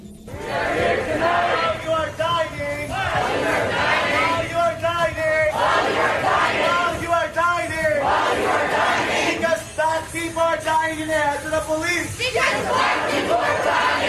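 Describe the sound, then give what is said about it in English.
A group of about 30 people who walked into a restaurant in Washington, D.C., shouts loud chanted phrases in unison, pausing briefly between bursts in a call-and-response pattern, with voices rising and falling together over a dense crowd din. “Group of about 30 people walked in, started screaming a call and response, and the restaurant didn't do anything to keep them out, didn't do anything to have them removed.”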